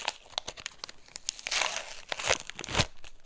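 Close, crinkly rustling of small foil packets being torn open, with a few sharp ripping bursts over steady crackling handling noise. No one speaks.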